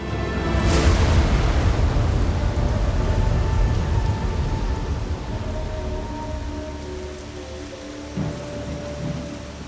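Steady rain hisses and patters without pause during a rainstorm in a forest by a river, with a deep rumble of thunder rolling underneath, strongest near the start and slowly easing.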